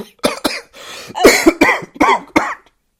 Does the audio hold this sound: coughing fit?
yes